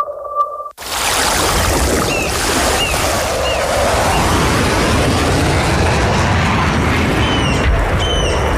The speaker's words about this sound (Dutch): Wist je dat er precisieaanvallen uitgevoerd worden op de natuur van de Wadden? Laagvliegende straaljagers schieten met scherp.